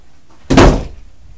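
A single loud door slam lands sharply, a heavy bang with a brief resonant tail that fades within a fraction of a second, with nothing else audible around it.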